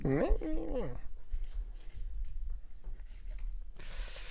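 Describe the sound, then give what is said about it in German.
A brief voice at the start, then soft scratching of a pen moving across paper in short irregular strokes, quiet and continuous for several seconds. “Stift in Hand.”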